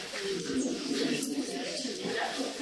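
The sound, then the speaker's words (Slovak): Pigeons coo steadily in low, rolling calls that overlap in a temple courtyard, against a busy, noisy background with what sounds like faint crowd murmur underneath. “So všetkými kozami, kravami, ovcami, vtákmi.”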